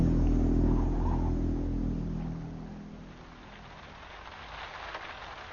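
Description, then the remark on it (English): Steady rain patters across a surface in a continuous wash of hiss, while a low motor drone hums underneath and fades away over the first few seconds. “Rain.”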